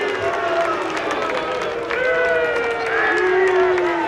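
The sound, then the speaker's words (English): A large, furious crowd at a grandstand roars continuously, many voices shouting and booing at once at a national leader climbing the grandstand steps over his gun control stance, in a dense, loud wall of sound that swells slightly toward the end. “But as he climbed the steps of the grandstand, the crowd let him know that they were not happy to see him.”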